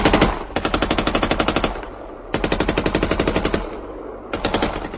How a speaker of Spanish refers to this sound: Mientras el tren daba marcha hacia atrás, los pasajeros saltaron de los vagones buscando dónde esconderse ante el bombardeo y el fuego de ametralladoras de los aviones alemanes.